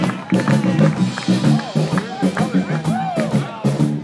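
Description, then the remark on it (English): An audience applauds and cheers a man for about four seconds, a loud steady wash of clapping with rising and falling whoops and shouts from many voices on top. “Give him a nice big round of applause, everybody.”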